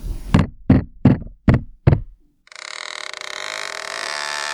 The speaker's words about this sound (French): Le gravier crisse sous la cabane, le bois de l'échelle craque, la poignée de la porte tourne lentement.